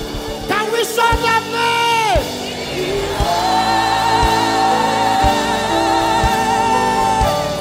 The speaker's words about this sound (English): if the name of Jesus is so powerful, never raise anything above the name of Jesus. Enough of shouting about coronavirus. It's just a mere distraction. Can we shout that name?